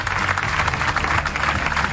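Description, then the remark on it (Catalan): Dense audience applause at 3:15 in the morning fills the whole moment, a steady, loud wash of many hands clapping at once with no break, sounding energetic. “Bé, que us sentin des de casa, una mica d'aplaudiment, una mica d'energia aquí.”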